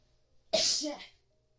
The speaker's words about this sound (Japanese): あ、ちょっと待って、くしゃみですわ。あ、待って、くしゃみですわ。くしゃみちょっと出してくる。みんなくしゃみ聞きたい？聞きたい？